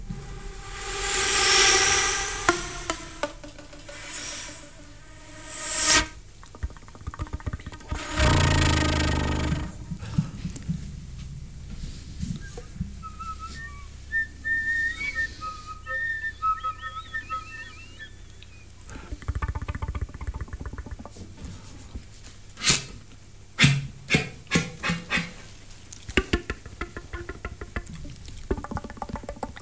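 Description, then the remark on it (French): Improvised solo flute playing that shows different ways of playing the flute, played on the flute alone. It is full of extended effects: breathy rushing swells, whooshing noise bursts, sharp percussive key clicks and a thin, high whistling line, shifting irregularly with no speech. “À la flûte, je certifie que ce n'était qu'à la flûte.”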